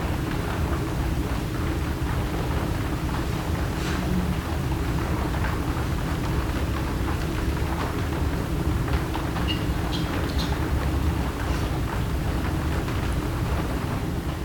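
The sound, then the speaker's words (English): Steady rain falls continuously with a dense, even hiss and a low rumbling undertone, with scattered droplet taps standing out now and then. No voices are present. “Aware of the movement of rain through silence.”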